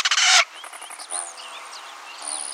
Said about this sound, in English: Then sit back and enjoy the symphony. Like this song of a house finch.